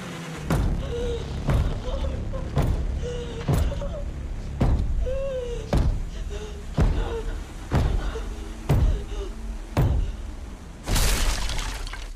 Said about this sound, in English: The bottom of the shed door blows open. All stare at the hole.